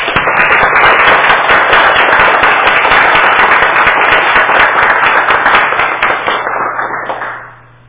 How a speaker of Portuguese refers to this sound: E de pé, gostaria que nós fizéssemos para eles uma grande salva de palmas, que merecidamente é pouco, mas que é o que nós temos a oferecer.